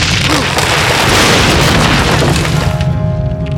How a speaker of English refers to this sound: Frank was shocked by the blast and knocked to the ground. While the roar was still echoing over the rolling wooded hills, guns began to bang.